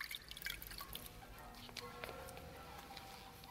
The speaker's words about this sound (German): Aus einem Krug gießt er Wasser in eine Schale.